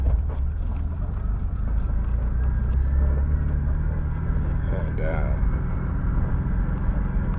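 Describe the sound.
An old bus drives along a highway, heading towards the burn after turning off the interstate north of Reno, its steady low engine rumble and road noise droning throughout while a person talks over it.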